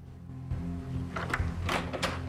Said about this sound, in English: He checks through the spy hole before opening the door.